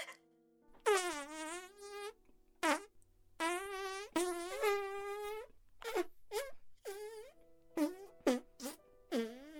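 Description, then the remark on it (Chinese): A string of loud, buzzy fart sound effects: two long, drawn-out wavering blasts followed by a quick volley of short, sputtering toots, with no talking. “救命啊，好臭，臭死，不要，不要再放屁了，臭死，我真的受不了了。”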